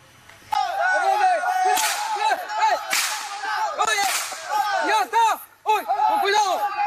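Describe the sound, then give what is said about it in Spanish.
Several sharp gunshot cracks ring out at irregular intervals in the middle of the night amid loud, agitated shouting from a crowd, as residents of an indigenous community in the Peruvian jungle fire at supposed beings, everything chaotic. “Este impresionante video captó ese instante en que los habitantes le disparan a los supuestos seres, como ven, en medio de la noche.”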